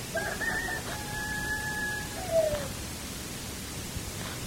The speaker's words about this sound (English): The rooster crowing heralds a new day.